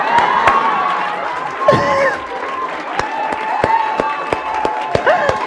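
A crowd claps in scattered, irregular bursts while voices cheer and whoop over a steady murmur, with a few rising shouts standing out above the noise.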